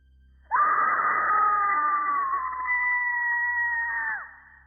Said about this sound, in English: It didn't sound like a distorted scream from a Halloween decoration. It sounded like a genuine scream of terror.